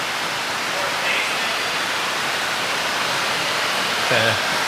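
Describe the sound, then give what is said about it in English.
Heavy rain pours down in a steady, dense hiss that fills the whole clip without pause, with only a brief faint vocal sound near the end. “For the stream people, I can say there is a very heavy rain coming down right now, so we have a lot of problems with the sound in here.”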